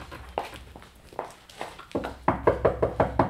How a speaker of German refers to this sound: Wenn sie noch im Bett liegt, klopfen Sie mal an der Tür da.